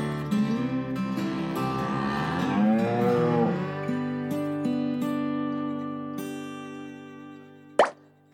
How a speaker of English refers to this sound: A whole group of cows is called cattle.